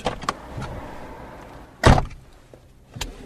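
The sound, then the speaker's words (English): Someone settles into a car: a few soft knocks and rustles, then a heavy door thunk near the middle, followed by a quieter click as a seatbelt latches. No one speaks. “seatbelt on. Right, we're in the car.”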